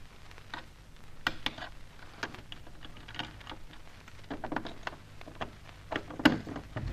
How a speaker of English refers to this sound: Now, hold your breath. I'm going to try one of Charlie Austin's keys on this door.